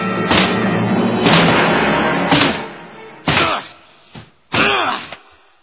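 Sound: door being broken down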